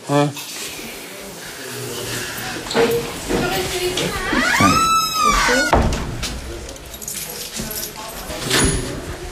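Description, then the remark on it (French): Keys jangle and rattle in a lock, followed by a door creaking open with a rising squeak midway, while indistinct voices murmur in the background. “Les portes sont fermées à clé?”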